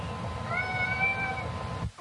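A cat lets out one long, drawn-out meow with a rising and falling pitch, clear, with no talking over it.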